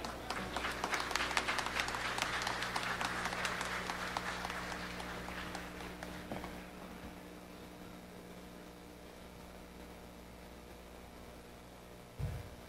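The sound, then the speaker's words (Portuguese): A crowd bursts into applause for a singer and accordionist being introduced, dense clapping swelling loudly for the first few seconds, then gradually thinning and fading into a low background hum, with a brief thump near the end. “Para o aplauso dos senhores e senhoras,”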